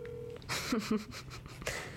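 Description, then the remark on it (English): A phone's ringing tone from an outgoing call sounds as a brief, steady electronic beep at the start, then cuts off into shuffling noise and a few faint, indistinct vocal sounds. “Okay, and call him. It's ringing.”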